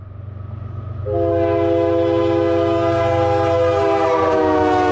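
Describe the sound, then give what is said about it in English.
A train rumbles by, and after about a second a loud, sustained horn blares over it and keeps sounding to the end. No one speaks. “She said she would look out at the railroad tracks and just imagine where they led.”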